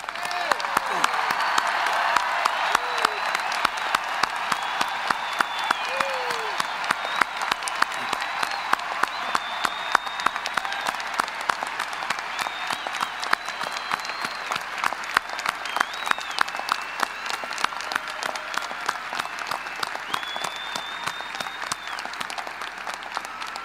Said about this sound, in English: And I ask all of us here to give those fantastic blue-clad creatures, let's give them a really rousing applause.